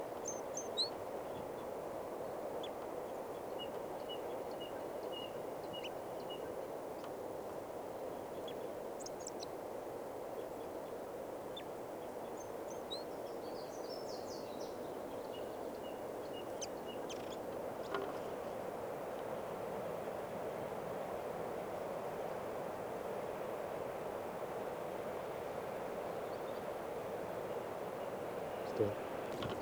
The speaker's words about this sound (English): The party have walked out into the park a little ways, and there's another male here singing a song up in the tip of a branch.